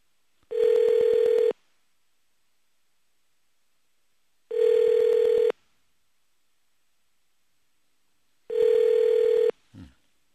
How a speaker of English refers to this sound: Okay. All those beeps. You hear those beep, beep, beep, beep? You know why that goes beep, beep, beep, beep, beep at the beginning with the dial tone? Because we're underfunded. That's why. We're underfunded.